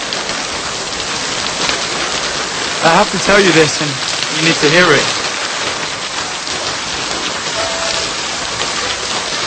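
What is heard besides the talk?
rain falling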